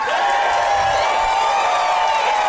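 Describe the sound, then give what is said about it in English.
An audience at a live show applauds and cheers for a band in a dense, continuous wash of clapping, loud and steady throughout, with shouts and whoops mixed into the roar. “Give it up again for ….”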